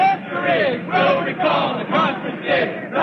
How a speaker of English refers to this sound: There were protesters and activists shouting their demands and concerns. Some scientists felt that there was too much shouting, too much talk about social issues, not enough scientific discussion.